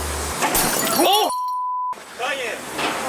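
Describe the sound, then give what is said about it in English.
A loud, sudden crash sound effect of a head smashing very hard into a street sign, with a clattering, shattering edge, followed by a vocal groan, then a steady electronic beep over silence and more voice afterward. “And now Kanye West smashes his head into a street sign really, really hard.”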